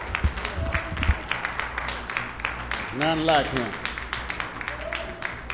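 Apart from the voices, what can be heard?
audience hand clapping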